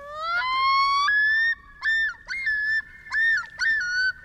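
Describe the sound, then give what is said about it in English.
A male common loon yodels: a long rising wail swells into a sustained note, then breaks into about five loud, repeated, wavering phrases, rich and mid-pitched, with no voices over it. “That's the haunting yodel of a male common loon, a sound that echoes across northern lakes where loons nest in summer.”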